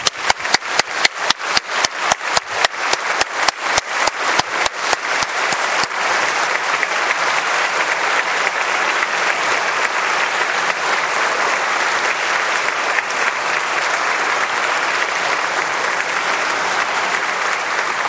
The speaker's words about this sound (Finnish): Me olemme tosiaan tulleet messun loppuun ja vielä kerran suuret kiitokset teille kaikille muusikoille, jotka olitte tänään toteuttamassa tätä Jumalan palvelusta. Minun mielestäni me voisimme nyt antaa teille aplodit.